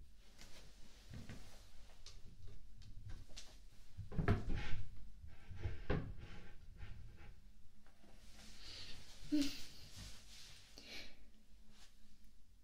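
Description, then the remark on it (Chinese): Drawers are pulled open and pushed shut with wooden knocks and sliding scrapes as someone searches for a hairdryer, a busy cluster of rummaging sounds near the middle, moderately loud, with no talking. “吹风机在哪儿？哪个抽屉？”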